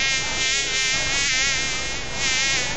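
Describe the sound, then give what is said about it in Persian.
A fly buzzes steadily and close, a continuous droning whine with slight wavering pitch, heard alone without any talking. “خو مگس جان، گاهی وقتم شده که یک چشم آرام خو کده باشی، چرا که همیشه ده گشت استی؟”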